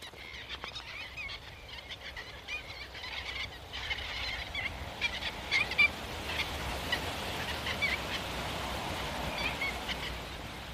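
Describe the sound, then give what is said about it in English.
A flock of red knots passes overhead, a soft steady whoosh of wings under a dense, continuous chatter of high twittering calls that swells slightly midway and holds to the end. “Their wings make a wonderful quiet whoosh as they do.”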